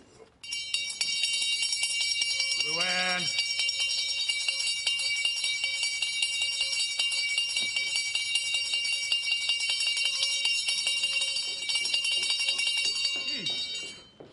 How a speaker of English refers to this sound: You hear this bell? Get your ass in here.